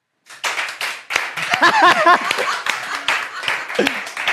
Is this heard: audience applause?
yes